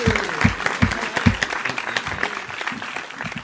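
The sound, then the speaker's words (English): An audience claps steadily in a dense, crackling wash of applause, with a few stronger, low thumping claps near the start before it settles into an even, sustained patter. “Round of applause for the pussy. One Round time of applause. We need a second. One more time.”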